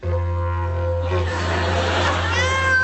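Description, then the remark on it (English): A sick, frightened, shy cat meows in drawn-out, wavering cries over a steady low hum, with the pitch sliding upward in a longer, louder yowl near the end. “Dick takes the cat”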